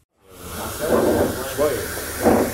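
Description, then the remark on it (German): An espresso machine in a small coffee house hisses and steams in a steady, fairly loud rush throughout, with muffled voices murmuring underneath in short bursts. “Die Espressomaschine zischt und dampft.”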